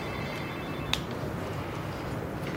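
Telephone keypad tones as someone dials a phone number: a thin, high electronic beep holds for nearly a second, then cuts off with a sharp click. A steady low background hiss runs throughout, and nobody speaks.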